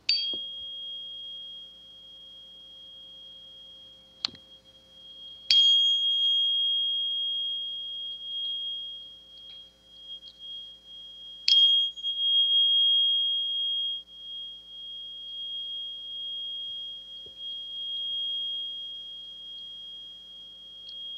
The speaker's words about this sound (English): when you hit the tuning fork on this crystal, you're going to produce the vibration of 528 hertz